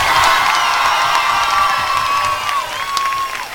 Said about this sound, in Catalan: El personal, quan ha començat el francès, la gent ha començat a aplaudir